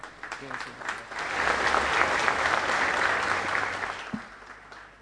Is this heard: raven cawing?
no